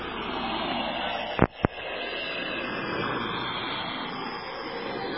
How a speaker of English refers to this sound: First, there are two types of jamming sounds. The first is white noise, machine gun-style jamming, which produces a sound which is highly effective and probably very familiar to you.